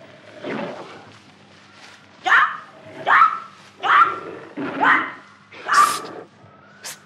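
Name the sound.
panther growling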